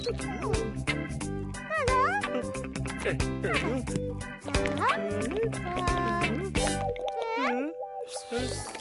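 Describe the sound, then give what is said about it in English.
Water pours into washing-up liquid to make bubble mixture, with bubbly plops and sloshing, under steady music and some vocal sounds throughout. “Some washing up liquid and some water.”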